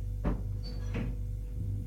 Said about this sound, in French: La porte s'ouvre. C'est lui.